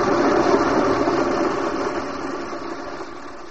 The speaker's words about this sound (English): I'm putting the coffee grinder on. I tell you so you won't jump and break the rest of the glassware.